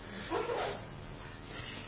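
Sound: dog sneezing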